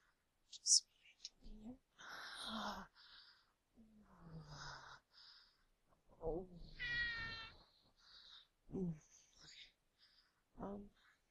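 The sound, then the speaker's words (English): A cat meows several times, with drawn-out, wavering cries separated by short pauses. Soft breathy whispering and quiet rustling sit between the calls. “And I have a cat.”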